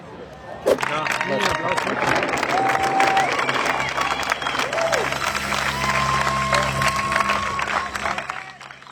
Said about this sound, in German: Liebe Sneakpot-Hörer, ihr hört gerade live vom Elite-Rennen der Herren beim Triathlon in Hamburg Weltcup-Stimmung. Hier, jetzt kommen gleich wieder ein paar weitere Athleten.